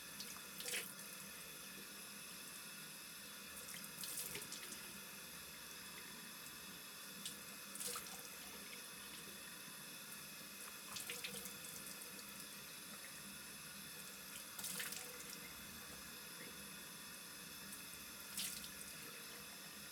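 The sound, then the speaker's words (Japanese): A faucet runs steadily into a bathroom sink while someone washes their face, a continuous hiss of water with occasional brief splashes and clinks as hands move through the stream. No one speaks. “洗顔が終わるまで待っててね。”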